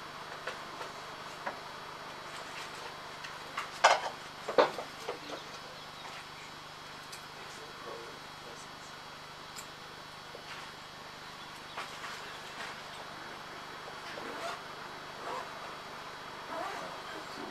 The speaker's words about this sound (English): And she is giving milk to me so much. I am milking. Very nice.